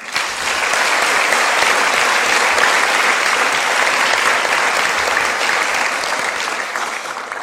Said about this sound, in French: Donc merci à eux, je pense qu'on peut quand même les applaudir.